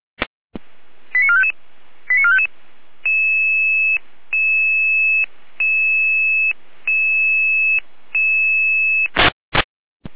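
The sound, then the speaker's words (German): An emergency dispatch alarm of steady electronic tones alerting crews in Saalfeld to an emergency door opening with police and rescue service: after a click and two short beep clusters, a sustained two-pitch tone repeats about six times in even pulses, loud and alone, ending in sharp clicks. “Hier ein Alarm.”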